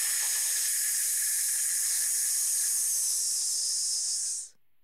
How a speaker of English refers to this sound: Take a deep breath in, allowing your abdominal muscles to expand, and then pull them in as you push the air out, making the hissing sound.